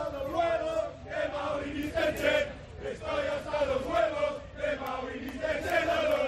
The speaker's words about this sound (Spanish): Por cierto, este es el grito de la afición del Español.